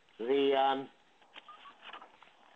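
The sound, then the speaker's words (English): A single loud electronic tone from a telephone keypad, as someone dials a call, sounds for about half a second over a narrow phone line, followed by faint, muffled voices in the background. “I'm calling.”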